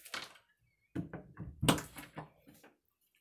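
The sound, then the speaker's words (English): A door being closed: an initial rustle, then a run of soft knocks and clicks building to one firm thunk, followed by a few fainter rattles as it settles. No voices. “So, is it all right if I close the door now, Professor?”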